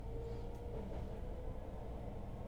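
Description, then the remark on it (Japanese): A steady low rumble of a crowded train running on rails, heard from inside with a constant droning hum and faint rattling, continuous throughout with no voices. “電車でそんなこと考えちゃう。”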